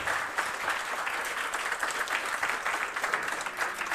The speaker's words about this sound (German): Und wir Applaus nochmal für die erste Gruppe hier, die einen Auftakt gemacht hat.